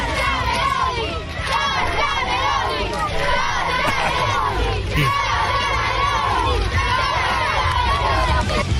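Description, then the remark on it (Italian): A large crowd of schoolchildren chanting and singing together with the Italian flag in Piazza del Popolo at the air force centenary, chanting Meloni. A dense, continuous roar of young voices, loud and steady throughout with overlapping shouts. “e sotto c'erano i bambini, credo delle scuole, a cantare con la bandiera italiana”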